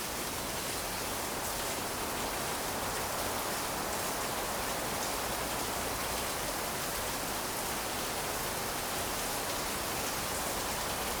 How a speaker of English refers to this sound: Ah, rain, so beautiful. Ai, a chuva é tão linda. Especially when you have a roof over your head, no? Especialmente quando a gente tem um teto sobre a cabeça, né?